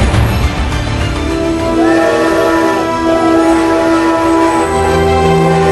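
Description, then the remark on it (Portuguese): A train rumbles steadily along the track, loud, with sustained tonal horn-like bands sounding over the continuous clatter throughout, as it makes the 12-hour climb on a mountain railway in Argentina to San Antonio de los Cobres. “Dentro do trem, tubos de oxigênio, médicos e enfermeiros para atender pessoas que se sentem mal com a altitude.”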